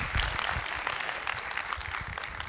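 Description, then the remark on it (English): A crowd claps steadily for a woman as she comes up to share, many hands blending into a dense, continuous patter of applause that stays at an even level throughout, with no voices standing out. “So let's give her a hand clap as she comes.”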